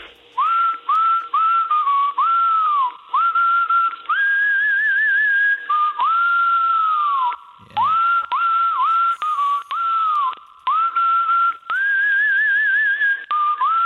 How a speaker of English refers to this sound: You must go down so well with the birds, literally. Like absolutely. When you're out in your garden and doing your whistling, they're like, "Oh, we've got some competition here." Do they just flock to you?